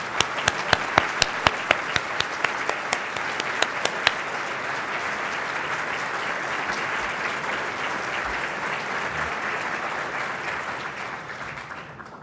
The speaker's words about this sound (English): To name them all would be a redundancy since they're listed on page 10 of our program, but I would ask all the former presidents if they would to stand in place and give them all, please, a round of applause.